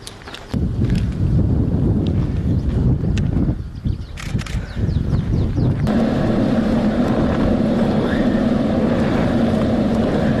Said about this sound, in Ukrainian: Дрон якийсь. Дрон летает.